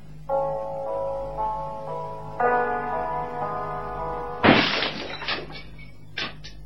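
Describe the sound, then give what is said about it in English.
A sustained, organ-like musical tone plays, then a gramophone record is smashed with a loud, sharp crash and brittle shattering, followed by a smaller clatter of pieces a moment later. “By smashing that record, you have helped me tremendously.”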